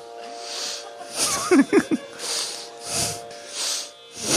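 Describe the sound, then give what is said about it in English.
Fast, deep breaths pumped in and out in a steady rhythm as a breathing exercise, a few turning into voiced huffs, over a faint steady hum. “Deep breathing. Not just fast, deep.”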